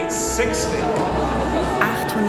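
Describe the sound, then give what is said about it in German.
An auction-room audience murmurs at once during bidding, after a further bid from the saleroom is pointed out, a steady, dense wash of overlapping voices with no single speaker standing out, holding at an even level throughout. “Ein Raunen geht durch das Publikum.”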